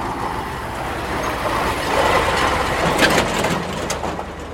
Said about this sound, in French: Juste à côté de nous, un camion est en train de traverser.